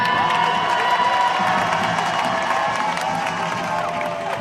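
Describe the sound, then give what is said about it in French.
A large crowd at a protest march in Paris, about 100,000 people by the organizers' count, cheers and applauds continuously, a dense wash of voices, shouts and clapping that stays loud and steady throughout, with no single voice standing out. “On peut s'applaudir, c'est un grand succès, non ?”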